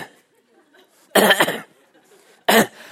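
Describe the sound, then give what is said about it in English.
A voice imitates a running man's habitual cough that recurs every 10 seconds: two sharp, loud cough bursts about a second apart, the first a double hack, with faint quiet murmuring beforehand. “every 10 seconds he has this habitual cough, so he's running, And I'm on the exercise bike in front of him, and every 10 seconds I hear this.”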